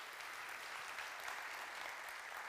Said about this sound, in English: It's good to be back in this room. Yes, we can give applause for that.